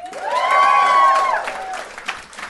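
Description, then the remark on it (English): An audience breaks into applause, a dense wash of clapping with loud whoops and cheers rising over it at first, then the clapping carries on a little softer for a couple of seconds. “Give me a round of applause if you feel good to be here.”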